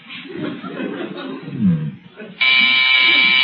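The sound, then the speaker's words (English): A harsh electric doorbell buzzes loudly and steadily for about a second, cutting in after a stretch of low voices and chuckling. “Harriet, would you mind answering the doorbell?”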